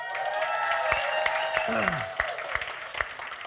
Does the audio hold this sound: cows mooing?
no